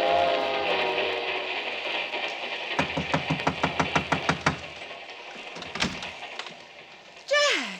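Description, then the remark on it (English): The North Side Limited passenger train rolls along the rails with a steady rumble and a quick run of rhythmic clacks over the track joints. A faint voice murmurs early on, and a short falling tone closes it. “Peter's on this train, too.”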